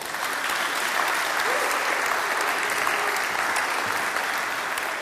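A steady wash of audience applause, many hands clapping densely and evenly at a fairly loud level for the full few seconds, with no voices standing out.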